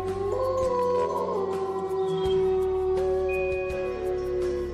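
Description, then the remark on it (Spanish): Several long, overlapping howls rise and hold together in a steady chorus, like a wolf pack calling at night, sustained and fairly loud with no talking. “En el mes de enero es la luna de lobo, porque las manadas de lobos hambrientos aullaban durante la noche.”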